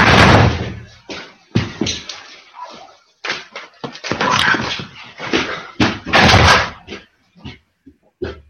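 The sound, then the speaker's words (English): A dog whimpers and yelps while something knocks and thuds repeatedly, a loud, irregular run of bursts with brief pauses and no talking. “I have to go again because the dog is doing something again now.”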